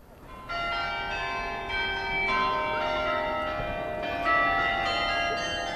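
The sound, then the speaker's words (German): Church bells peal from a Flemish belfry beside the market square in Béthune. Several strikes overlap into a sustained, ringing wash of tones that swells and layers over about six seconds, fairly loud and resonant, with no voices. “Am Marktplatz neben dem flämischen Glockenturm”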